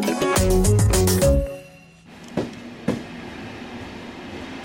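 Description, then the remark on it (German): A brief, loud burst of tonal music gives way to a passenger train rolling along the tracks: a steady rumble with two sharp clacks of wheels passing over rail joints. “über das Reisen im Zug, über die SBB.”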